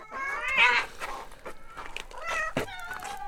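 Several overlapping cats in a house meow and wail in rising, drawn-out high-pitched cries, fairly loud, with a sharp click around the middle and no talking.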